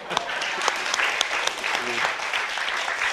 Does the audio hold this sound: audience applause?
yes